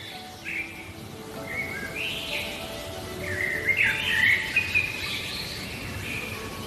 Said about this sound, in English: Oh, you can hear the birds waking up slowly. Very gradually.